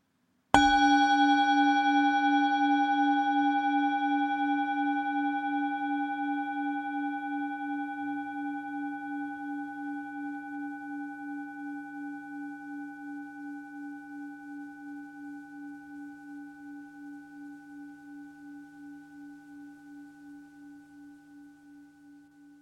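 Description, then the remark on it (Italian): A single mindfulness bell is struck once, its warm low tone and bright overtones ringing out and slowly fading over twenty seconds with a gentle pulsing shimmer. No voices are heard. “La campana di consapevolezza è un suono che ti aiuta a tornare al momento presente.”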